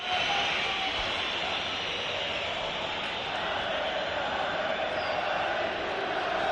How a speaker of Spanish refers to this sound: La grada joven anima, el Bernabéu pita y los italianos aplauden.